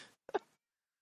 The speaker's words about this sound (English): And there's my cat. And it's a complaint.